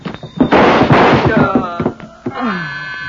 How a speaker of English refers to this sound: The shots had come from the street, from a black sedan parked at the curb.